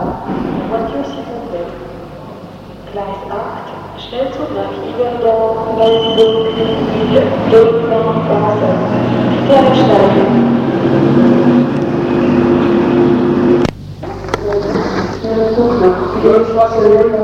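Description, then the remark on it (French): A train pulls away from the crowded station at Moutier with a steady rumbling roll and faint high metallic squeals, while indistinct voices murmur underneath the whole time. “Une fois que le train est parti”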